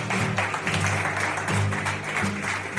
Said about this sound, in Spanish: Así le recibían con aplausos.